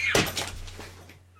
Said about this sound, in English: My son is knocking stuff off at all the shelves.